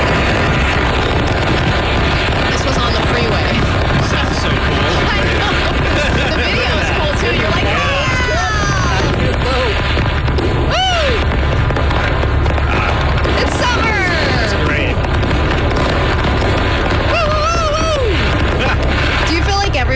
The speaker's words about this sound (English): you also want to make sure you're enjoying the fireworks while they're exploding